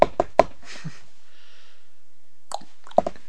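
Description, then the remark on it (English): Sharp knocking taps from someone walking, sounding like knuckles on a door: three quick raps, a pause of about two seconds with a faint hiss, then a few more scattered knocks. “Is that how you walk? Like you're knocking on the door?”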